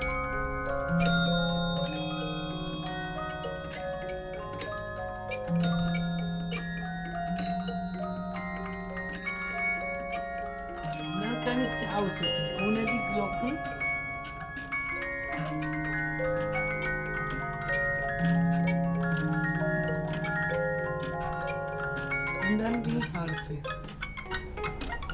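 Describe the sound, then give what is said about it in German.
A mechanical music player strikes a set of ten bells in a steady, tinkling melody, each bright chime ringing out clearly and overlapping the next, with faint background talk near the end. “Und die schlägt nur auf 10 Glocken.”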